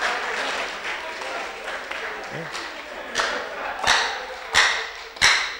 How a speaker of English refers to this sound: I think you should clap. It's a good place to clap.